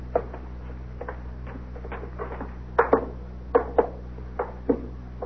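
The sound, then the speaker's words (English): Knocking on the front door of a small house with a little white fence and a fancy door knocker: a string of light, uneven taps, then a few sharper raps bunched together near the end, over a steady low hum with no voices. “Fancy door knocker, huh?”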